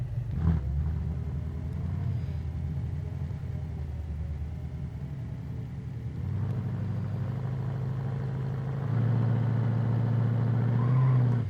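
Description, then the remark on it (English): A video-game car engine hums steadily at low pitch, shifting as the vehicle reverses, then revs up louder and higher toward the end. No one speaks over it. “So I'm gonna back the car up.”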